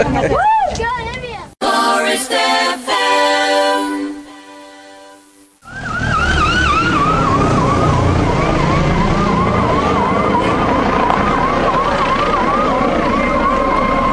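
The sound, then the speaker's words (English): A Dorset Police helicopter buzzes low over the village of Sixpenny Handley with sirens blaring: loud wailing sweeps, a steady harsh horn-like tone midway, then continuous rising and falling wails over a dense engine roar. “Well, in case you're wondering what the sound is, that's the Dorset Police helicopter with sirens blazing, doing a buzz of Sixpenny Handley.”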